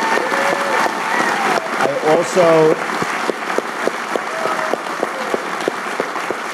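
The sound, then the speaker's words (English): An audience bursts into sustained applause for Peter Lynch at an event put on by Fidelity, a dense, steady clatter of many hands clapping for several seconds, with a few whoops and voices rising briefly above it. “How about a round of applause for Peter Lynch, ladies and gentlemen?”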